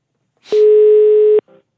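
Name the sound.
telephone ringing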